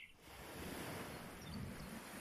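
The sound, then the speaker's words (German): Soft, steady ocean surf washes continuously with a breathy layer of wind over it, a broad even rush that stays at the same gentle level throughout, with no voices. “Die Vögel, den Wind, das sanfte Rauschen des Meeres.”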